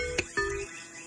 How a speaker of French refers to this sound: Et toujours les oiseaux chantent